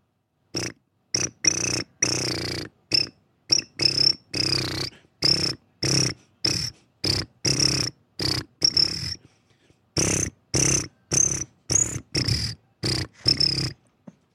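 Crickets chirp a march tune in a steady rhythm as a cricket concert on K-Nerdist, dozens of short, bright bursts spaced evenly, with brief pauses between phrases, fairly loud, with no voices.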